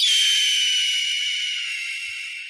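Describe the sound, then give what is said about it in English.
A single long, harsh scream of an adult red-tailed hawk, a raspy high-pitched descending cry that holds loud for over two seconds and slowly fades, with no voices. “The harsh scream of an adult red-tailed hawk is one of the most iconic bird sounds in the world.”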